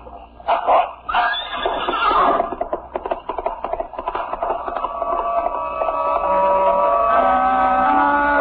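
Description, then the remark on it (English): A gigantic black dog barks loudly a few times as it closely trails a rider galloping away, hooves clattering in a quick galloping rhythm, fading into steady sustained tones that carry on to the end. “Trailed closely by the gigantic black dog, galloped away.”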